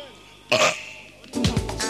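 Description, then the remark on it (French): A short, harsh throaty burst, then a louder, deep croaking burp from a man that drops in pitch, fairly loud, with faint background noise and no talking. “L'homme qui rote. À la slash. Plus fort.”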